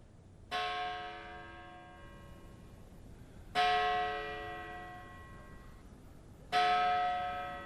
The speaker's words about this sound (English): That's the bell atop Greenwood's carved Gothic entrance. It tolls whenever a new body is received at the storied cemetery, which opened in 1838.